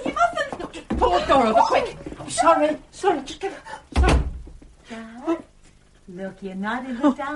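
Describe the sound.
A wardrobe door thumps shut twice, two dull wooden knocks amid hurried, overlapping speech and a short chuckle.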